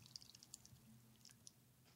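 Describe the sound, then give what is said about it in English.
Cocos Pure coconut water dribbles quietly from a can as it is poured, a handful of small, irregular liquid drips and splashes over a low steady hum, with no one talking. “Did you capture the dribbling sound that it makes as you pour it?”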